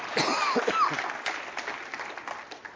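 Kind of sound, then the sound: crowd, audience clapping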